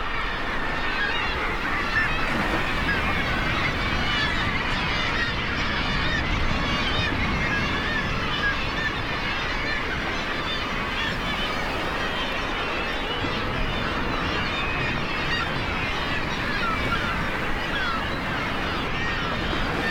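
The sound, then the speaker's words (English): A dense chorus of seabird calls from gulls, petrels and kittiwakes, with growls of murres, honking and squawking cries overlapping continuously, over a steady roar of waves crashing against rocks at a nesting site on Great Island off Newfoundland in the North Atlantic, recorded by Lang Elliott, loud throughout. “As waves crashed against the rocks, Lang Elliott captured the calls of gulls, petrels, and kittiwakes, and the growls of muirs.”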